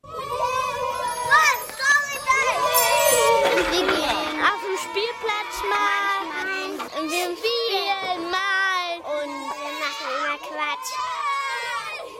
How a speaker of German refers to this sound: Ja, Kinder in der Kita beim ausgelassenen Spiel, da kann es auch schon mal laut werden, vor allem wenn die Gruppe größer ist als laut Schlüssel eigentlich gewollt.